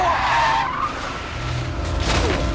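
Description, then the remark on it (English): A car swerves at a driveway to avoid a cyclist riding out in front of it, with a sharp, rising tire screech that sweeps downward in pitch, followed by a loud, continuous skid and engine rumble over about two and a half seconds. “Paul swerves, narrowly misses him, and Adam falls over.”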